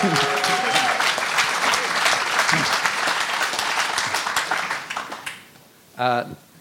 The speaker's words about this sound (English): In shock, didn't know what to do. They clapped.